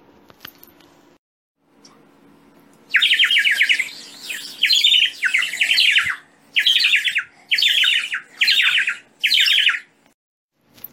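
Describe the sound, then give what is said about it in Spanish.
Pigeons squawk loudly in about seven rapid, scratchy bursts, each lasting roughly a second, with brief pauses between and no talking. “No, Hansel, los lobos comen carne, son las palomas, ¿y ahora qué hacemos?”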